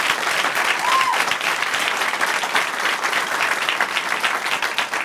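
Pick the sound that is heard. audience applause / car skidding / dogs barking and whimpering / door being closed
audience applause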